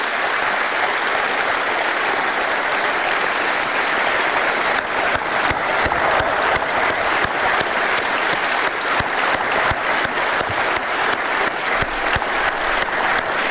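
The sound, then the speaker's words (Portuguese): Sustained audience applause in tribute to Nuno Ortigão, late local official of Foz do Douro and former Metro do Porto director, fills the whole stretch, a dense steady wash of many hands clapping, with sharper individual claps standing out in the second half and no one speaking. “Grande aplauso para Nuno Ortigão, autarca da Foz do Douro, antigo quadro também da Metro do Porto, ele que morreu em abril deste ano, foi diretor de exploração do Metro do Porto,”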